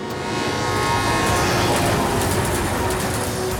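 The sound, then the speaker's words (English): A steady, loud rumbling roar with faint high metallic whines running through it, like a train rolling along the rails, continuous throughout with no voices. “Across North America, shipping goods, building communities. This train runs through our lives.”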